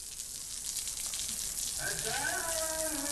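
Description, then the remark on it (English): Steady, hissing rush of the flowing Euphrates River in southeast Turkey fills the whole stretch, even and constant, with a voice starting to speak over it partway through. “Here in southeast Turkey, the Euphrates River is clear, blue, and deep.”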